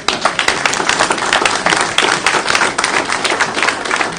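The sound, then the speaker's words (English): A crowd applauds steadily, many hands clapping in a dense, continuous patter that stays fairly loud and even throughout, with no voices rising above it. “How about a nice round of applause?”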